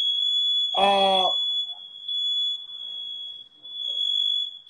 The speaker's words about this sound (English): This is a motherfucking smoke detector. It's real.